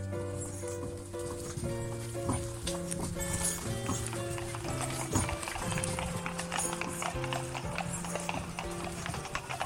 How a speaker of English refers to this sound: We lead the horses up to a field of wheat